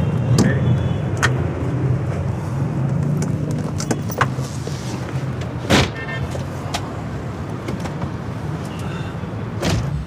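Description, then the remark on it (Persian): A car drives along with a steady low engine rumble and road noise, broken now and then by sharp clicks and thumps from inside the vehicle. “یه دوری با هم بزنیم. ماشینم هنوزا میگم بیاد ببره. بریم.”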